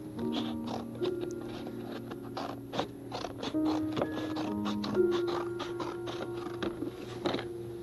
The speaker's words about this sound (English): Those are grown-up scissors. Yep. Oh, I used to use the kind that were about that big. You know, and had the rounded edge on them. Yep. That was the best kind for a small boy.